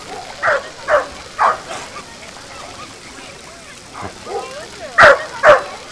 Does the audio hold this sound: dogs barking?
yes